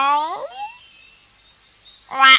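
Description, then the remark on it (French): A voice imitates a frog's croak in one drawn-out, downward-sliding call, followed by a thin lingering whine and a short vocal burst at the end. “Pas moi ! Se plaignit la grenouille.”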